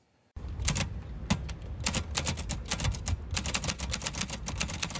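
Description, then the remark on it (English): Rapid mechanical typewriter keystrokes clatter in a steady, busy stream after a brief silence, each strike crisp, with low thumps underneath and no voices, as a poet types custom poetry for tips outside a downtown bookstore in Bloomington. “is using typewriters to craft custom poetry outside a downtown Bloomington bookstore for tips.”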